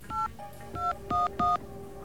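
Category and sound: signal or alarm, telephone number being dialed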